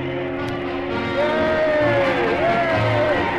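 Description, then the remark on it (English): A large crowd in a town roars in sustained, noisy celebration, with loud cheering and a few long, rising whoops cutting through the steady din. “Come on, the town's going crazy.”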